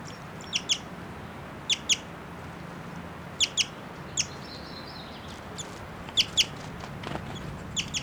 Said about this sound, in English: And it's a female. And that's her flying and chittering here. Giving these whistling notes.